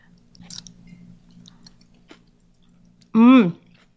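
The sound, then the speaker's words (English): Soft chewing of a cooked leafy green with vinegar: faint wet mouth clicks and smacks over a low hum, then a short, loud voiced murmur near the end. “Excuse me, I'm talking with my mouth full here.”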